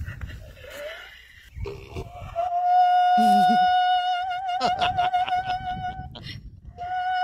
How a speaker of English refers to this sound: It's the singing opera donkey. This is Harriet the donkey.